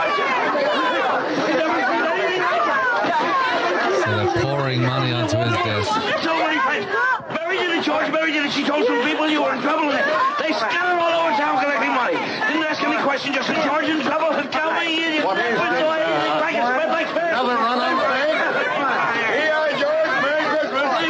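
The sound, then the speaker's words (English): A loud, dense crowd of people from all over town pouring into a house, chattering and calling out all at once, an overlapping babble of many voices that stays steady for the full length with no pauses. “I know it's noisy, so you can't hear everything, but you know, now people from all over town are pouring into his house and throwing their dollars and $10 and $20 and just giving back.”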